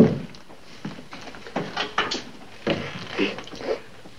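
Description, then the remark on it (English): A door is handled and shut, with a series of soft wooden clunks and thuds spread over a few seconds and no talking. “Dad, would you mind closing the door on your way out?”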